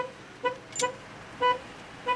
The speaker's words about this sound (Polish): Klakson słyszałem, natomiast żadnych odgłosów silnika, ani samochodu stojącego na parkingu, ani samochodów, które przejeżdżały tuż obok.